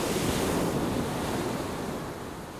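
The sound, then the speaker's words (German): Steady roar of ocean surf washing and breaking against an offshore rock below a lighthouse, throwing up white spray, broad and continuous with a windy rush over it, no voices, fading slightly toward the end. “Unterhalb des Leuchtturms steht Hugo Vau und zeigt auf einen vorgelagerten Felsen im Wasser, an dem immer wieder weiße Gischt hochschießt.”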